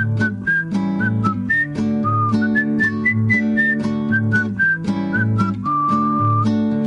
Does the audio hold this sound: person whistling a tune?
yes